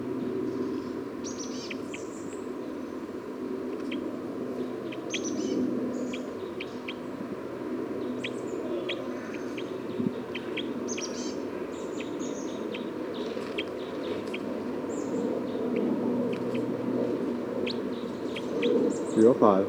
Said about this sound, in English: Recording bird 305 again.